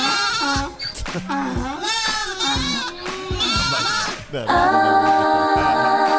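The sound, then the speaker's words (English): A goat bleats loudly and repeatedly, a string of wavering, nasal cries that ends in one long, sustained bleat. “With Camifloss 14-gauge wire, you get to the hard-to-reach places of your goat or donkey teeth.”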